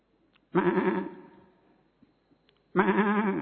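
Two loud, quavering goat bleats with a short pause between them, a performer's voice imitating a goat during a cultural programme of animal and machine sound imitations.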